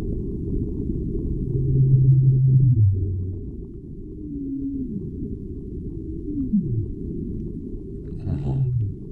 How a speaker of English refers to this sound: subsonic sounds, mistaken for earthquakes when they were first detected by scientists, can be heard across thousands of nautical miles. Here, sped up 10 times so we can hear it, the sound of the blue whale.